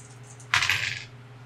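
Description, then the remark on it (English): A short burst of two dice clattering and rattling across a table for about half a second, then settling on a 6 and a 1, with a faint low hum in the background. “I rolled a 6 and a 1.”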